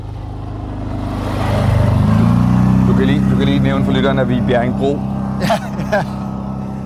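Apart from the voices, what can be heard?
tractor driving past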